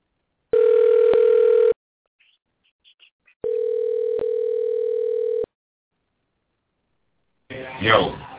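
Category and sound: signal or alarm, telephone dial tone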